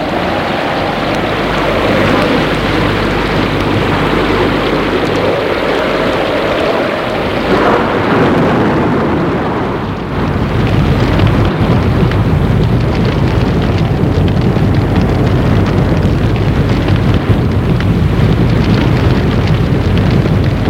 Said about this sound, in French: L'orage gronde de plus en plus fort.